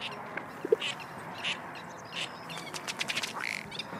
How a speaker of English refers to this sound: They're bird watchers, drawn to the Agua Hedionda Lagoon Ecological Reserve by the many birds that live here or visit on long migrations.